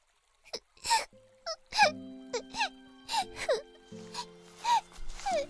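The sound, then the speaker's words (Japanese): A ten-year-old girl sobs and whimpers deep in the Fairy Forest in a string of short, breathy, wavering cries with catchy gasps between them, while a soft, steady musical drone plays underneath. “シエールがしくしく泣いていると、そこに一人の男の子がやってきました。”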